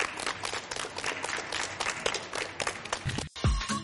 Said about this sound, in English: All right, guys, one more time, a round of applause for Rufus Johnson, everybody.